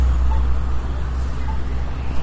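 Steady street traffic at a crosswalk on Frankfort Avenue with an accessible audible traffic signal, a continuous low roar of passing engines with no breaks, heard from the roadside with no talking.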